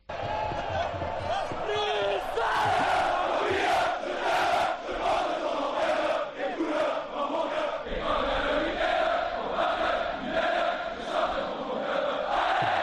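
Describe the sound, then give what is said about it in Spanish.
A loud stadium crowd roars steadily for the whole stretch, a dense wall of massed voices with regular rhythmic pulses like clapping or stamping running through it, as player Van der Heijden rouses the fans in the style of Simeone. “Así levanta al público al estilo Simeone Van der Heijden.”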